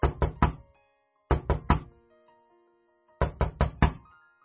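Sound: knocking on a door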